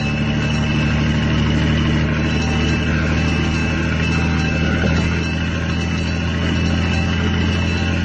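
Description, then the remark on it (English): A fire engine drives through city streets, its heavy engine droning steadily and loudly for the whole stretch: a low rumbling hum with no voices and no siren. “Another car pulled away from us as we race down towards Broadcasting House.”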